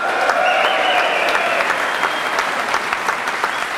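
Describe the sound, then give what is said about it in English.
An audience at the Radisson Blu Hotel in Galway applauds itself loudly and steadily, dense clapping mixed with whoops and high cheering voices that rise early on, then settle into continuous clapping. “To everybody here at the Radisson Blu Hotel in Galway, and to our sweet sponsors, the Bord Gáis Energy, and most importantly to you, give yourselves a huge cheer.”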